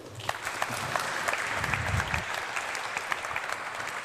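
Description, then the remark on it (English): Steady audience applause welcoming a speaker to the stage, a dense wash of many hands clapping at an even level for about four seconds, with no voices standing out. “Please give him a great round of applause, and I'm welcoming him to the stage.”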